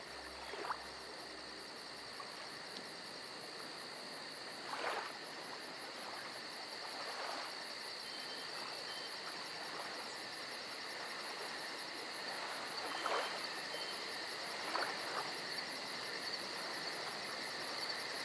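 Crickets chirp softly and steadily in the background, a continuous high trill over a quiet hiss of ambient noise, with a few faint brief clicks scattered throughout and no voices.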